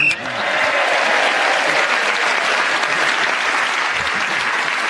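A sustained round of audience applause for Clement Freud's turn, many hands clapping in a dense, steady wash that stays loud and even for about five seconds, with no voices standing out.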